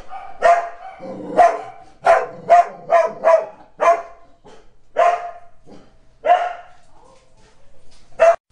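dogs barking

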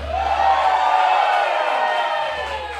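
audience cheering and applauding

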